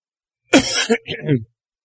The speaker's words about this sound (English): Y'all have to excuse me. I'm sorry. I got this cough and I can't seem to help.